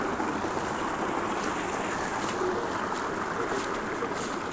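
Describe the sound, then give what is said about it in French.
A small stream flows steadily, a continuous bubbling, rushing wash of water with no pauses, filling the whole scene at an even, moderate level; the stream runs from the wet ground or peat bog of the former lake Udurduas in the Trémaille pasture. “On suit le petit ruisseau qui s'écoule depuis la mouillère ou la tourbière de l'ancien lac Udurduas.”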